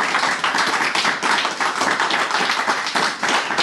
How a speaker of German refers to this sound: Und jetzt könnt ihr nochmal zum Abschluss einen tosenden Applaus raushauen. Ich denke, das haben sich unsere Leute hier verdient.